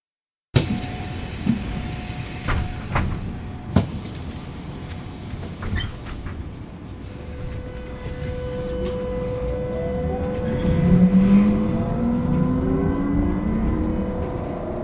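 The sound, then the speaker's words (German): Steady low engine rumble inside a moving city bus in Zürich, Switzerland, with rising whine as it accelerates, a few clunks and rattles early on, and faint squeaks; no one speaks. “Hören Sie das Gespräch in einem Bus in Zürich.”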